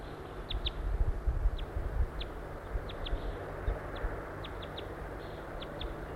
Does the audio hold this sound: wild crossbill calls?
yes